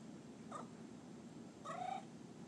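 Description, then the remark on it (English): A cat lets out two strained, wavering yowls, a short one followed by a longer, louder caterwaul, with no talking. “You sound like a raccoon. But you're a kitty.”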